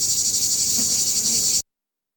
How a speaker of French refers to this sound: Et justement parce que c'est constant. Quoi. Constant. Quoi. C'est là le coup des cigales, voilà, c'est pareil, si on pouvait de temps en temps couper le volume.